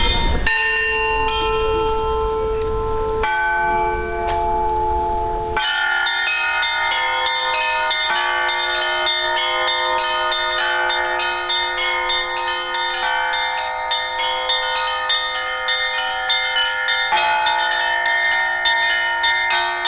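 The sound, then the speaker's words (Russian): Church bells ring continuously, a rich cluster of overlapping tones with rapid repeated strikes layered over sustained ringing, loud with no voices. “задуматься о том, насколько важно значение колокольного звона в богослужении и как тонко он воздействует на человеческую душу, затрагивая в ней что-то самое потаенное.”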